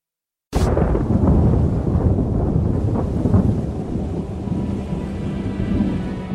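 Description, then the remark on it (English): Thundersnow: after a brief silence, a sudden loud crack breaks into a long, deep rolling rumble that stays heavy for several seconds, with no voices. “You can have your $500 million jackpot in Powerball, but I'll take this thunder snow.”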